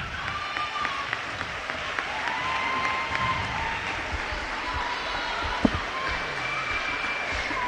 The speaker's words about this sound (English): Ladies and gentlemen, we welcome you to the Fortside Fieldhouse tonight for a special night as we celebrate 50 years of ladies basketball here in Fort Recovery. Give a big round of applause for all those standing out in front of you.